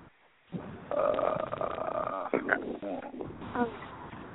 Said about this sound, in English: Sound like you burped.